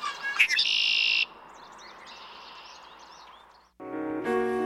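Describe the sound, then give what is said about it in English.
Birds sing and chirp in the sharp morning air in bright, high-pitched bursts, several calls overlapping near the start, then quieter chirping continues before a louder, buzzy harmonic call closes the scene. “On my walk to the car through the sharp morning air, I couldn't help wishing I could sing like them too.”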